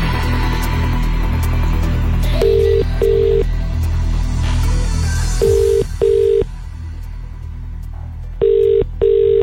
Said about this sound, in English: Okay, here we go. Let's go over to the phone lines and ring the first number back.